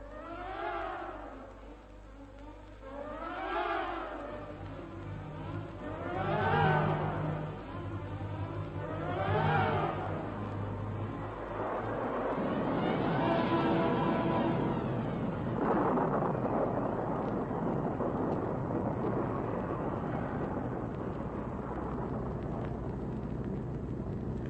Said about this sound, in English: We're in this dashed storm. We'll have to get out of it.